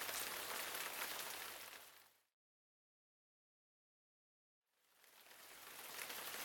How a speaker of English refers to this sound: But before she could get there, the rain began to fall, lightly at first, then harder and harder.